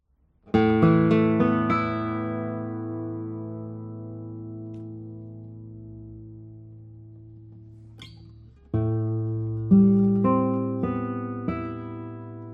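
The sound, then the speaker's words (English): A 2024 acoustic guitar by Gary Southwell, number 375, with a spruce top and Indian rosewood back and sides, rings out with a strummed chord that sustains and slowly fades for several seconds, then a few more chords and notes follow in quick succession, clear and fairly loud with no talking. “And this guitar has the number 375. Let's play a few tones on it.”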